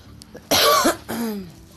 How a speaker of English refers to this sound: Every time I get to record, I have to cough. Like, it doesn't matter. Every time I record, I have to cough.